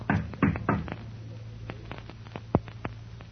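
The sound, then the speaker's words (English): Three firm knocks on the door of a theater manager's office in quick succession, followed by a scattering of lighter, fainter taps over a steady low hum. “Shall I knock on the door for you?”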